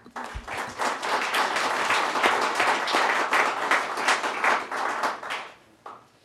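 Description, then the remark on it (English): An audience at an employee years-of-service recognition applauds steadily for several seconds, a dense patter of many hands clapping at once, loud, before it thins out and fades near the end. “Let's clap.”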